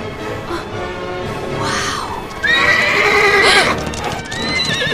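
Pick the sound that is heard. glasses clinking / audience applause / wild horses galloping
wild horses galloping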